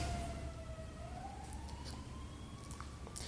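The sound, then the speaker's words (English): An emergency vehicle siren wails steadily as it goes past, its tone slowly rising, over a low rumble of city traffic with no one talking. “How do we speak for the Chicago River and Lake Michigan and the mountains and waters and the sirens going past?”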